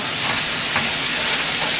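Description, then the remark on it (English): Rice fries in a hot pan to turn crunchy and a little brown, sizzling with a steady, even hiss that stays at a constant loudness for the whole stretch, with no speech over it. “we want this rice to fry a little bit.”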